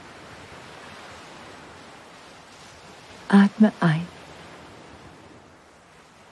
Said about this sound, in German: Du schaust dich um, siehst das türkisfarbene Wasser, wie es sanft das Ufer umspült und wie kleine weiße Blasen zurückbleiben, während es wieder in das Meer zurückfließt.